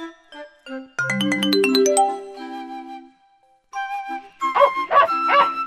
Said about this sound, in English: A dog barks. Bow, bow.